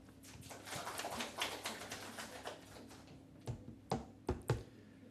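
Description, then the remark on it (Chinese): A church audience applauds a visiting preacher with dense, fast clapping for about three seconds, then the clapping thins out into a few scattered, sharp individual claps before stopping. No one speaks. “谢谢弟兄姐妹们这么热情啊！我去很多教会讲道，不是每个教会都给掌声的。”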